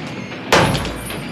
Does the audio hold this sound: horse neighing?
no